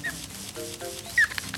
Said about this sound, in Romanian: Păsărică.